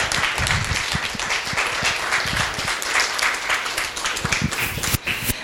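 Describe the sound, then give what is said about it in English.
Many people applaud steadily for several seconds, a dense wash of many hands clapping at once with a few sharper claps standing out near the end. “Yeah, let's give it a round of applause.”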